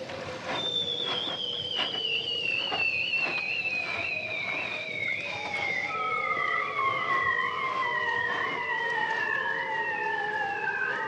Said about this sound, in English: the winner this year is recorded by Matthias Arignon, and it's called Songs of the Bearded Seals